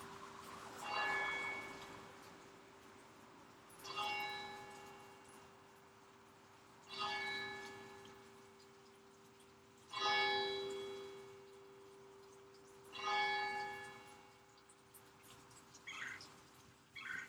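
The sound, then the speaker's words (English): The bells of St. Joseph Catholic Church in Winter Haven, Florida, toll in a slow, steady rhythm, five resonant strikes spaced about three seconds apart, each ringing out and fading with a lingering hum beneath. “That was the church bells of St. Joseph Catholic Church in Winter Haven, Florida.”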